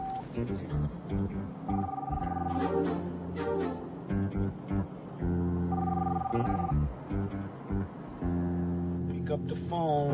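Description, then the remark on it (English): A car phone, down on the right, rings with a loud, repeating electronic tone, its bursts cycling steadily for about ten seconds with brief gaps between them. “Phone, little thing down on the right that's making a noise.”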